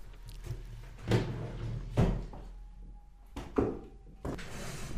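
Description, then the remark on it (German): A drawer behind the speaker is pulled open and rummaged through to fetch a gift, with several knocks and wooden clunks spread over a few seconds amid soft shuffling, moderately loud, no talking. “ich muss es noch vorgrübeln aus der Schublade hinter mir.”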